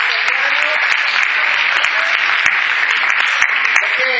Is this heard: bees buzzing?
no